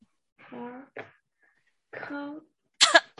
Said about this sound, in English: Cough. Yeah, I have a cough today.